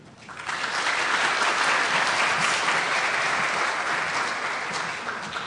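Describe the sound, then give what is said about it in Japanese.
An audience at a church gathering bursts into steady applause to welcome a speaker, rising quickly to a full, sustained round of clapping that holds for several seconds before beginning to taper slightly at the end. “拍手を持って歓迎いたしましょう。”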